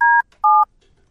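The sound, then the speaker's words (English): Two telephone keypad tones beep in quick succession, each a short, steady dual-pitched electronic note, clear, with a brief gap between them and quiet afterward. “How do I call a number, Kristen? Do I have to dial one first?”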